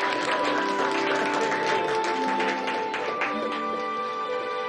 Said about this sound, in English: Elaine and Steve clap together at the piano.